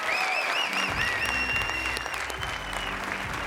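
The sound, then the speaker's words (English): Steady audience applause at the Marriott Center welcoming Kevin Young, the new Brigham Young University men's basketball coach, fills the whole stretch, a dense wash of clapping at a fairly loud, even level, with some whistling tones rising and falling above it. “Let's give one more round of applause for Coach Kevin Young.”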